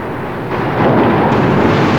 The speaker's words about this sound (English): More torrential blasts of foaming water tear across the ship.